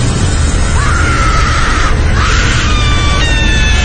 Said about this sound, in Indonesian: Berteriak histeris, menggeram.